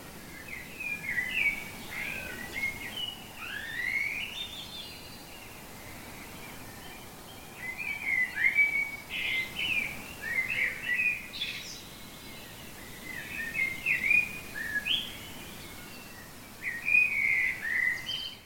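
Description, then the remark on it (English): Several birds sing and chirp outdoors in spring, bright overlapping phrases coming in bursts with short pauses, over a soft steady background hiss; birdsong recorded in Caerleon, Irvine and Glasgow. No voices. “Birdsong recorded by Hannah in Caerleon, Elma in Irvine and Yvonne in Glasgow on RNIB Connect Radio.”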